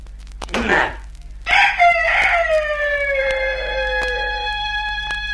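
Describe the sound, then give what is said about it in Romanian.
A rooster lets out one long, loud cock-a-doodle-doo, its drawn-out final note sliding downward, just after a short scratchy squawk. No one speaks. “Cucoșul o ia și se duce în treaba lui.”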